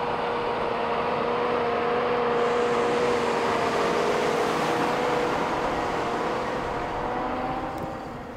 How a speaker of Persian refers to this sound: اومد ماشین اومد. کو پسر این که ماشین شهرداریه.